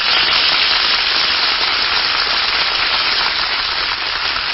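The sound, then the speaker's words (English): Steady, loud audience applause on the Screen Director's Playhouse as tonight's stars Bob Hope and Jane Russell are introduced, a dense crackle of many hands clapping that holds at an even level throughout, with no voices heard over it. “Hear that applause?”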